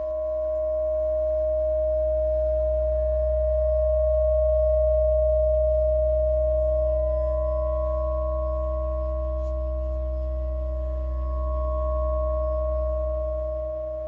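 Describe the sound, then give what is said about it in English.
Sustained guitar feedback rings as a steady, unchanging drone of stacked harmonic tones over a deep low hum, loud and continuous throughout with no voices. “where they're playing around with harmonics in a different format.”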